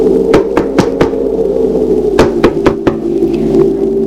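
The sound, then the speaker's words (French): Two bursts of firm knocking on the door of a huge dark house, a quick group of four raps, a pause, then another run of four, over a steady low hum. “Descend de cheval, lui tient à la bride et va frapper à la porte.”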